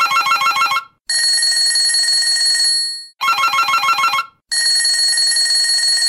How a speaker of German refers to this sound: Also, wir haben herausgefunden, dass ein Schulleiter viel Stress hat. Zum Beispiel, dass oft das Telefon klingelt.